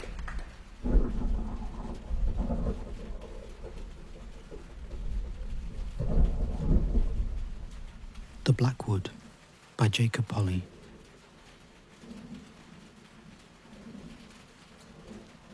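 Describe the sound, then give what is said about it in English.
Steady rain drums down on an old tin roof with a low, rumbling roar and occasional heavier swells, while a man's voice speaks briefly over it partway through. “Rain falling on this old tin roof, chucking down a heap of 1988.”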